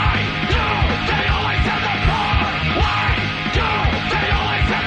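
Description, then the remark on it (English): Loud, dense metal music from a music video, with harsh screamed vocals over pounding drums and distorted guitars, sustained at full intensity with a driving rhythm throughout. “This is so much metal, and I love it. Yes. There's a lot of yelling in it.”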